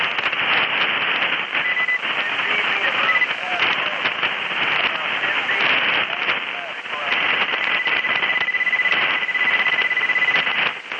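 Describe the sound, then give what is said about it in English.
Dense shortwave radio static at about a 10 dB level hisses throughout while a thin, steady whistle tone cuts in twice, another station tuning up on the frequency, over faint garbled voices. “somebody's tuning up on top of us, and I think you said there's a 10 dB static level, 10 dB static level, and I'm a 30 over that.”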